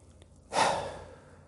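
A single forceful breath: a strong inhale through the nose, then a full, forceful exhale through the mouth, fairly loud, a rushing sigh that fades out over about a second with no talking around it. It is a cleansing breath in a breathing exercise.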